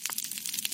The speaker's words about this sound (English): And what it is it's the sound of thousands of snapping shrimp all clicking their claws.